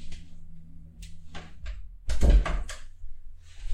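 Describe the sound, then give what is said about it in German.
A door swings shut with a solid thump around the middle, preceded by faint shuffling and handling noises and a low steady hum in the background. “Ich muss mal die Tür zumachen.”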